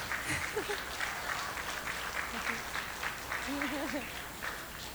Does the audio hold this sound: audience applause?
yes